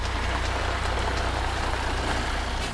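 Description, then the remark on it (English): Dozens of red emergency trucks from the Army's Special Disaster Unit rumble steadily past a temporary base of operations on the edge of Coicerola Park, a loud, continuous low drone with a broad wash of road noise and no pauses. “At a temporary base of operations on the edge of the Coicerola Park, dozens of red emergency trucks from the Army's Special Disaster Unit roll past.”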